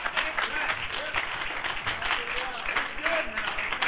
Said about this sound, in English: Wouldn't you clap like an idiot too? Wouldn't you clap crazy if you knew a God who just when He looked at you, you were the apple of His eye? Well, good. Start clapping that way.